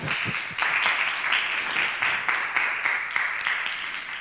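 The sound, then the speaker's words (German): Steady applause from an audience welcoming a speaker, dense overlapping clapping that stays loud and even throughout, with no voices over it. “Vielen Dank, einen warmen Applaus.”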